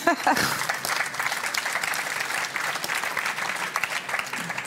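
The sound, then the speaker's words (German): An audience applauds steadily after a reading, a dense wash of many hands clapping at a fairly even level for several seconds with no voices standing out. “Also man dürfte sogar klatschen fürs Lesen.”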